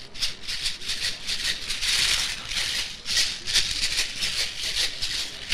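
A caxirola shaker rattles steadily for several seconds, its bright, gritty hiss pulsing in quick, regular shakes with no voices over it.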